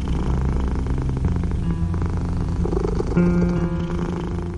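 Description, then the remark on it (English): A 14-year-old male cat purrs steadily, a continuous low rumbling that holds at an even loudness for several seconds with no voices. “the cat, recovered from his mysterious illness during the pandemic.”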